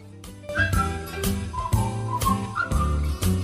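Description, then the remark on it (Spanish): A bright whistled melody from a film soundtrack rides over a full band backing, with a steady bass line and punchy drum hits keeping a bouncy rhythm, no voices singing or talking. “Hay silbidos que, con solo escuchar un par de segundos, ya sabemos en qué película salían.”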